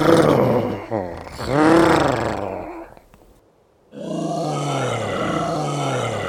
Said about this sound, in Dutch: Ik hoorde een vreselijk gegrom. Daar stond het sneeuwmonster. Hij was wit als sneeuw met twee enorme tanden en hij gromde vreselijk.